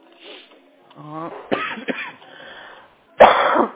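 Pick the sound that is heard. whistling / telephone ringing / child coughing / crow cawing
child coughing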